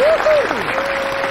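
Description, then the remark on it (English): A crowd, including the announcer on stage, applauds steadily at a Howell Elementary school program for the choral music teacher and new vice principal. Dense clapping fills the whole stretch at an even, fairly loud level, with a couple of brief whistle-like tones gliding over it. “Everyone applauds, including the announcer on stage”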